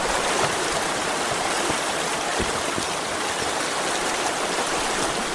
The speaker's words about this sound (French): Aujourd'hui, on va faire une randonnée dans la forêt de 4h30. Les bruits de l'eau.